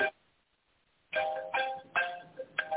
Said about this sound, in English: Don't worry about that phone. Leave it ring. I'll turn it off. We're not answering.